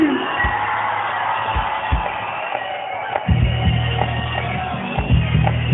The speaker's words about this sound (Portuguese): Hoje eu quero ouvir um grito mais forte de quem gostou aí!